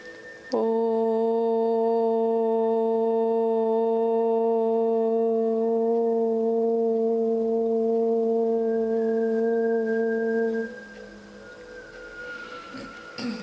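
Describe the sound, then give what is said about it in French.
A single long Om chant sung aloud, a steady mid-pitched voiced drone held for about ten seconds before fading, followed by a quieter, thinner lingering tone. “Et à partir de là, on va faire trois ohms à haute voix.”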